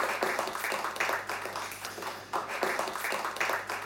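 A crowd applauds warmly, a dense steady patter of many hands clapping at even loudness throughout, with a faint low hum underneath.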